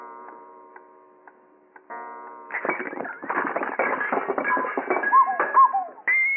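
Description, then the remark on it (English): An eight-day clock goes off at about 12 o'clock: a steady humming tone with a few soft ticks, then a burst of loud clattering, rattling mechanical noise with two brief squeaky chirps near the end. No talking. “Must have been an 8-day clock.”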